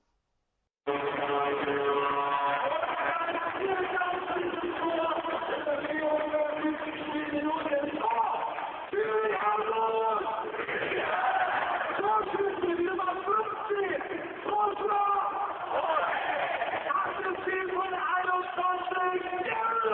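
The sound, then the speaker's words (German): An ice hockey crowd at a Freezers game erupts after a goal, recorded on a mobile phone: a loud, sustained roar of many voices with chant-like swells that carries on without pause for nearly twenty seconds. “Und jetzt hören wir uns mal an, wie es klingt, wenn ein Tor fällt.”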